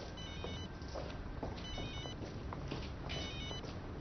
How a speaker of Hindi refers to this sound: माफ कीजिए, तुम फोन का जवाब दो, मैं चलता हूँ।